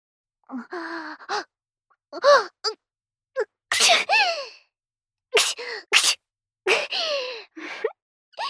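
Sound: sneeze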